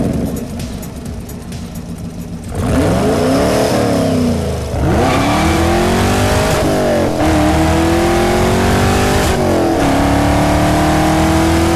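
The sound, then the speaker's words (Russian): A 6.2-litre Chevrolet Corvette petrol V8 engine, fitted to the next-generation Chevrolet Camaro coupe, idles briefly, then roars into a series of loud revs, each rising and falling in pitch, about four sharp throttle blips with no talking. “Купе оснастят 6,2-литровым бензиновым двигателем от «Корвет», звук которого компания «Шевроле» не так давно дала послушать всем поклонникам модели.”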